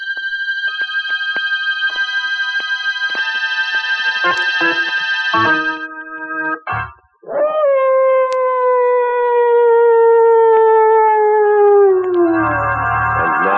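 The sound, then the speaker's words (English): Long, wavering howls of mad dogs rise and sustain for several seconds, layered into a drawn-out, mournful chorus that slowly falls in pitch, loud with no talking; the scene is set in darkest Africa. “John Carradine isn't exactly soothing to your nerves, but put them together in a story set in darkest Africa with mad dogs howling in the background and, whew, well, find out for yourself.”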